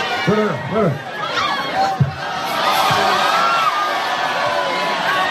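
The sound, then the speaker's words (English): A rowdy crowd at a house party of over 1,000 guests shouts and cheers, with several loud voices whooping before the noise swells into a dense, continuous roar of excited yelling. “Why would you ask a loony crowd? They're just they sound insane.”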